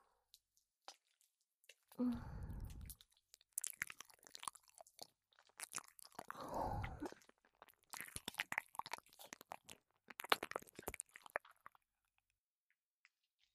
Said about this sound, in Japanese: ついでにお耳も舐めちゃおうかな。